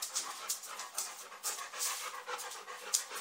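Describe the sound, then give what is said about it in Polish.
A French pointer dog pants rapidly and steadily, a breathy rhythmic huffing that continues throughout without pause. No one speaks. “Piękny pies, też wyżył francuski.”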